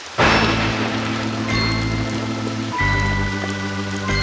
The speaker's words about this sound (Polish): Ale leje.